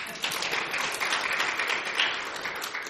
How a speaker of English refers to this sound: All right. Give yourselves a hand clap of praise.